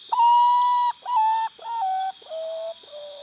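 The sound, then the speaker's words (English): A mournful series of five whistled notes, each long and steady, stepping gradually lower in pitch and fading slightly in loudness, like a potoo's melancholy song, with a faint insect-like hiss behind. “They're birds more often heard than seen, with a melodious but mournful song made at dawn, dusk, and by the light of the moon.”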